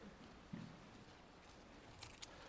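Faint rustling of thin Bible pages being turned as people turn to Genesis chapter 7, with a couple of brief crisp flicks near the end over a quiet, low hum. No one speaks.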